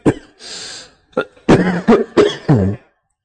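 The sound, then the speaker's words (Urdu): A person coughs and clears their throat in a quick series of harsh, raspy bursts, fairly loud, with a breathy rasp between them and no speech; the cough came on from constant running around and staying awake. “مسلسل بھاگ دوڑ کر جاگ جاگ کے گلا کھانسی تکلیف شروع ہو گئی ہے”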